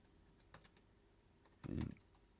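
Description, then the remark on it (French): A few scattered keystrokes tap on a computer keyboard, followed by a heavier, louder clack near the end. The sound is dry, with no voices. “Merde, je suis pas sur le bon clavier.”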